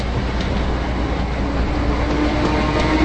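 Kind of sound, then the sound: vehicle, train running on rails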